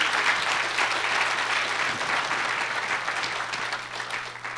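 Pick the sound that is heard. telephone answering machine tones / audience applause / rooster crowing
audience applause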